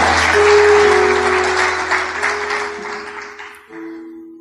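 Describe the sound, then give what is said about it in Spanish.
An audience applauds loudly, a dense wash of clapping that holds steady for several seconds, with a sustained tone underneath, before thinning and fading toward the end. “Si va a aplaudir, aplauda fuerte.”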